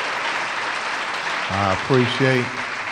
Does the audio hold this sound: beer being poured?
no